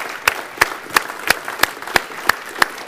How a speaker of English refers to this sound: Stand to your feet. Let's give the Lord a good hand clap. Let's tell the Lord we love him.